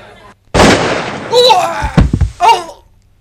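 A single loud gunshot cracks out and rings off as a man who has just risen from his chair is shot dead before he can draw, followed by a couple of cries or exclamations and a few dull thuds.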